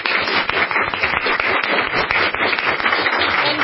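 A room full of people applauds the panelists of a conference panel steadily, a dense wash of many hands clapping at once with no pauses and no voices over it, sustained at an even level throughout.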